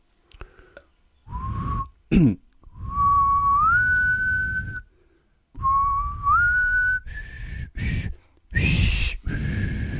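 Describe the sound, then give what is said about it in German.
Someone whistles a slow, sustained melody, the title theme from a French actor's best-known film role, long held notes stepping up in pitch, broken by short pauses and a brief throat-clearing sound near the start. “Jetzt pfeife ich mal die Titelmelodie von seiner bekanntesten Rolle.”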